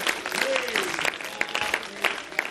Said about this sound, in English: Somebody clap your hands to him right now.